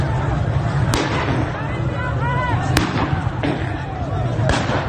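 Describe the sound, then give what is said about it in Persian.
Sharp, loud gunshot cracks from pellet guns fired by security agents at protesters on the Zayandeh Rud riverbed ring out at irregular intervals, two prominent and a couple fainter, over a constant roar of crowd noise and shouting voices. “برخی ویدیوها هم از شلیک گلوله های ساچمه ای به مردم حکایت دارند. ساچمه است نه؟”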